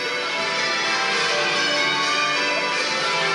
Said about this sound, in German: Die Glocken der Westminster Abbey, die schlagen noch. Man hört sie. Das große Glockenspiel.